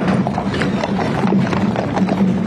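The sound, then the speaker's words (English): Hooves clip-clop steadily on pavement as a horse-drawn caisson carrying former President Jimmy Carter's casket moves through the streets of Washington, D.C., arriving at the Capitol; the rhythmic hoofbeats sit in a continuous outdoor rumble with no one speaking. “A horse-drawn caisson carrying former President Jimmy Carter's casket has just arrived at the Capitol after a trek through the streets of Washington, D.C.”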